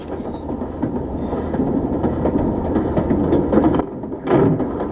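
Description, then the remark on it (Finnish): A passenger train bound for Helsinki rumbles steadily along the rails, a dense, continuous low roar with faint rhythmic clatter, swelling briefly near the end. “Minä istun tuossa vaunuosastossa. Ollaan kaverin kanssa matkalla Helsinkiin töihin.”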